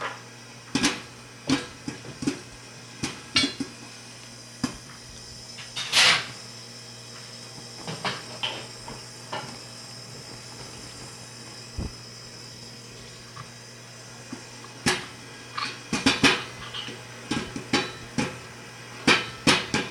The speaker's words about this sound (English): Is there something wrong with this tea kettle? I don't know. It seems to make that noise there. It's pretty loud.